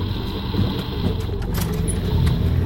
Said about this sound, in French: Un hélicoptère, vous le voyez? Oui, on le voit d'ici, il vole pas. Il est en train de survoler ma cabane. Il se dirige droit vers la forêt.